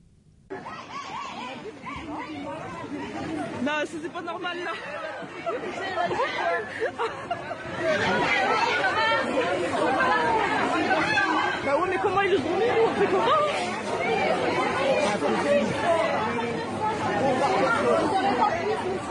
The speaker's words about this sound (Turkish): Süpermarketleri akın eden alışverişçiler alabildiğine kavgaya başlamışlar. Bak sesi de var, dinletelim mi?